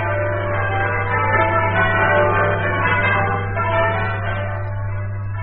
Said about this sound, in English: From the heights of our graceful bell tower, the bells ring out their welcome, inviting you to spend the next half hour listening to music warm, comforting, and uplifting.